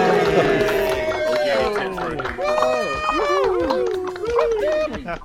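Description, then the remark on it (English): A quarantined virtual studio audience, joining from their homes around the planet, cheers and whoops together, overlapping voices loud and sustained for about five seconds, with bright, wavering shouts rising and falling over one another. “Give yourselves a cheer. Yay!”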